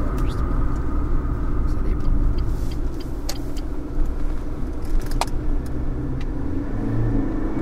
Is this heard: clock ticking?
no